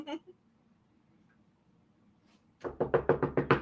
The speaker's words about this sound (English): I would knock on that wood all day long.